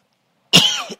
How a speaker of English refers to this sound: Excuse me, I have a little tickle in my throat. Keeps wanting to make me cough.